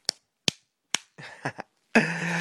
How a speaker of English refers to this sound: Oh, you like that, don't you? Spanking your little titties, huh?